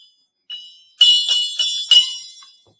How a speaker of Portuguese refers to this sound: O gongo